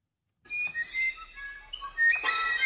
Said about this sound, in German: Manche Vogelarten, die singen sehr musikalisch, das wirkt sehr musikalisch auf uns. Und zum ganz herausragendes Beispiel ist der Flageolettzaunkönig.